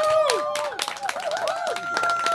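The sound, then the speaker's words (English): A live crowd at LA Live breaks into loud, sustained applause, dense clapping layered with shrill whistles and cheering that rise and fall throughout. “Let's get a hand of round of applause for LA Live right now.”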